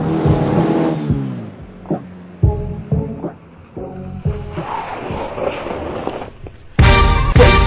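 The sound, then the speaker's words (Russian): A car engine revs hard as the pedal is floored, its pitch climbing in several short surges before a loud, sustained roar at the end, with no voices. “До упора вышел педаль пол, я зубы стиснул.”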